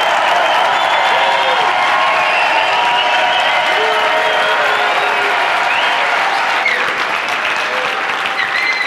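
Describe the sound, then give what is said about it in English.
About 1,000 Wealth and Wisdom event participants give a standing ovation, applauding loudly and steadily for the full nine seconds, dense clapping with a few faint cheers or whistles rising over it. No one speaks. “Give him a big round of applause, guys. Give a standing ovation.”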